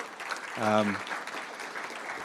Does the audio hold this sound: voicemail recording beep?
no